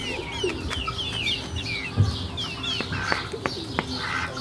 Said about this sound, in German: Das sind sehr junge Hennen. Sehr, sehr jung. Und eine große Ente dazwischen. Eine große Ente.